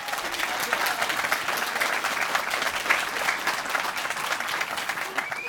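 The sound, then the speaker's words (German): A large audience claps steadily for several seconds, a dense, continuous patter of many hands with faint voices mixed in, fairly loud throughout. “Einmal in die Hände klatschen, wenn ihr Spaß habt.”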